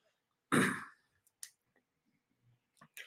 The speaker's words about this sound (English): I'm sorry I had problems with, you know, coughing with this cold. Hopefully by next week it'll be cleared up, and I won't be coughing in your face.